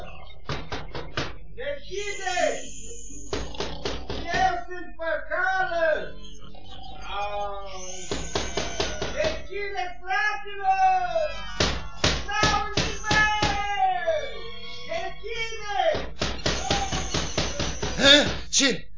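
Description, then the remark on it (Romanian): Bursts of sharp knocking on a wooden door at midnight come in several groups of quick raps, loud, with voiced, wavering sounds filling the gaps between them. “Frate meu, bate cineva în ușă.”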